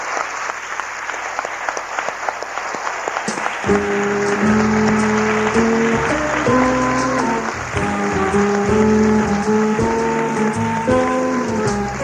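Sustained applause from a studio audience for Miguel Indurain on Radio Nacional, a dense steady clatter of many hands. After a few seconds, music with held chords starts up beneath the clapping and continues to the end.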